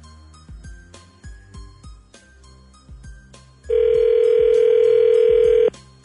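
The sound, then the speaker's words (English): A loud, steady telephone dial tone, heard while a call is being placed, cuts in for about two seconds over a thumping rhythmic music bed, then stops abruptly as the beat carries on. No one speaks. “and then we'll call her when we come back.”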